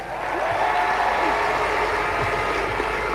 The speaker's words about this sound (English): He came all the way down here and gave a commitment to win an All-Ireland for Kerry. He deserves a huge round of applause.